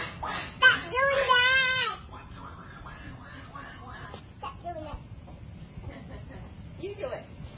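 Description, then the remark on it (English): A person does a raspy, quacking Donald Duck voice imitation in a loud burst lasting about a second and a half near the start, followed by quieter, indistinct talking. “He sounds like Donald Duck.”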